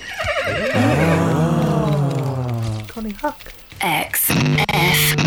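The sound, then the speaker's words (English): A loud, long whinny from a tiny yellow horse being ridden, with a shaky, descending pitch, fills the first few seconds, followed by shorter snorting bursts and some clattering sounds. “It's Connie Huck riding a tiny yellow horse.”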